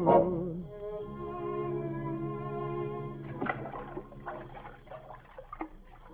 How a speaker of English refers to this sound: Oh, I'm rowing over to the amusement park across the river.